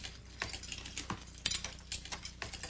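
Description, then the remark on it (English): Forks clink against dinner plates at a crowded family dinner table in a loose, irregular rhythm: a series of sharp, bright taps and scrapes, some louder than others, with no voices. “I really love having a family dinner where all you can hear is forks hitting the plates.”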